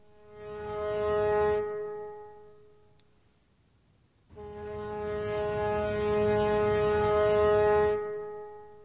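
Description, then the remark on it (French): Two long, deep foghorn blasts, the first about a second and a half, the second longer after a pause of a few seconds. The tone is loud and steady, with no voices. “La corne de brume.”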